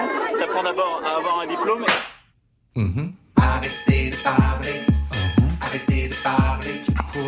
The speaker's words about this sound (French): Il dit cette phrase et vous lui mettez une gifle, c'est ça ?